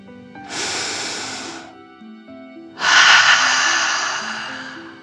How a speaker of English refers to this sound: let's relax by taking 3 deep dragon breaths. Breathe in through your nose, filling up your belly, and then out through your mouth, imagining you are breathing fire. Ready? Deep breath, in and out.